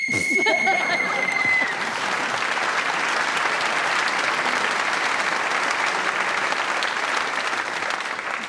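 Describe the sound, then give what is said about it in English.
A single sharp whistle blast, blown to end the round, sounds for about a second and a half, immediately joined and then followed by loud, sustained applause from an audience. “Speaking as the whistle went, you get the point.”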